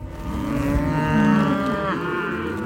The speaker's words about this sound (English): 2,000 cows move through the sagebrush in the Upper Green. Cowboys on horseback push them along. Cattle from 11 ranches are moved 60 miles from the desert to the mountains each spring.